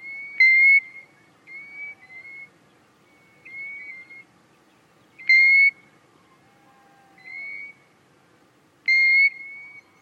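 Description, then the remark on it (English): Golden Plover calls: clear, plaintive single whistles repeated every few seconds, three louder and several softer, each a short high note, with no voices over a quiet background. “The wistful voice of Golden Plover is my own favourite.”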